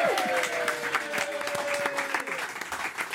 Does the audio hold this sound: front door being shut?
no